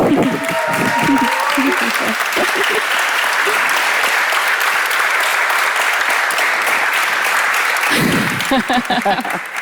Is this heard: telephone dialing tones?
no